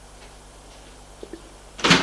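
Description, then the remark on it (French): An office door slams shut with a single loud, sharp bang near the end, preceded by a couple of faint clicks over a quiet hum. “Un bruit. Il se retourne. La porte du bureau a plaqué.”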